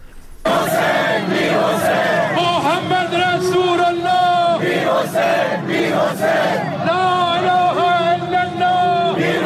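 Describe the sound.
At the funeral procession of Akbar Hashemi Rafsanjani, as his coffin passes, a large crowd chants a slogan in unison in answer to a loudspeaker calling 'La ilaha illallah', loud and sustained, with rising and falling voiced phrases repeating in a steady rhythm over a dense roar of many voices.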